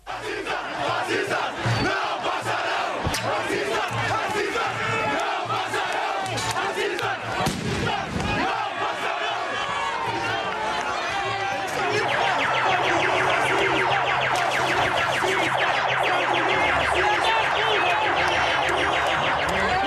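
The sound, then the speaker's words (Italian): A large protest crowd in Brazil shouts and yells continuously outside the Carrefour supermarket in Porto Alegre. Voices overlap in a loud, dense roar that swells and grows more intense in the second half, with occasional sharp bangs early on. “Rumori, le grida, le proteste che stiamo ascoltando arrivano dal Brasile, in particolare in questo caso dalla città di Porto Alegre, sono state registrate fuori dal supermercato Carrefour di Porto Alegre”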